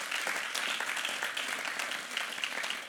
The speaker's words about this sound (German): Und könntet ihr euch gegenseitig mal einen Applaus geben? Wirklich unglaublich.